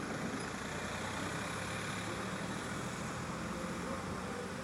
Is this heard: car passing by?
yes